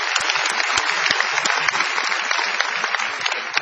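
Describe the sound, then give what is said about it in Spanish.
Steady audience applause at the Feria del Libro (book fair) of Las Varillas, a dense crackle of many hands clapping at once that stays evenly loud for several seconds, with no voices over it. “Vamos a aplaudirnos.”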